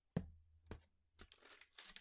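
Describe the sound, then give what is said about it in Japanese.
A paper bag is handled and opened, starting with a couple of sharp crackles, then a burst of rustling, crinkling paper noise. No one speaks. “じゃあ、紙袋の方からいこうかな。”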